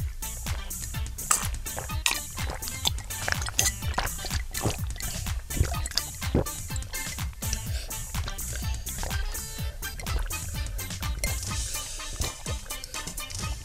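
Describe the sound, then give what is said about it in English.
People race to gulp down full pints of squash in quick, loud, overlapping swallows, a steady run of wet glugging sounds lasting several seconds with no talking. “And we each have a full pint of squash. Let's see who can drink it the fastest.”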